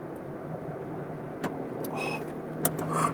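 A steady low rumble of road and engine noise fills the cabin of a moving car, with a few brief clicks and rattles rising above it.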